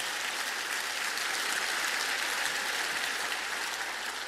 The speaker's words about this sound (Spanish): Dar un aplauso al Señor en el nombre de Jesús.